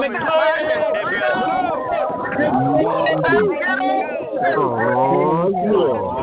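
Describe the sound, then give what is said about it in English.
Callers on a group call scream into the lines to show they are excited: many voices shout and cheer over one another at once, a dense, loud, continuous clamor with rising, wavering pitches, sounding thin and band-limited as if coming through phone lines. “Scream into the lines, right?”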